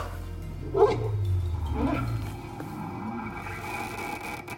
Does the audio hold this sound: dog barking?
yes